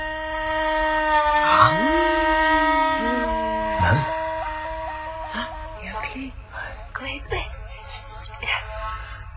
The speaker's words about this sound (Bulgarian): Чуете ли го? Тава подсвиркване е на отсечената глава на смока.